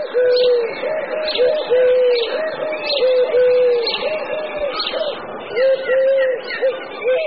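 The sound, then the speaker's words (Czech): Eurasian collared doves coo steadily, their soft hollow notes repeating and overlapping in a continuous chorus, with faint higher bird chirps in the background. “Vzhledem k všeobecné znalosti hrdličky zahradní nikoho nepřekvapí ani její hlasové projevy.”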